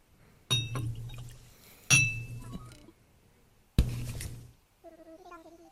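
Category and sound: household object, glasses clinking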